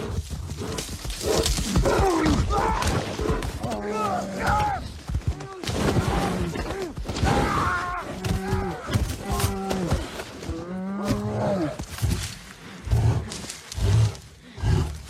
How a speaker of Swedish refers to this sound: Vi klämmer in scenen här lite fort, bara får vi höra hur det kan låta att bli attackerad av en björn.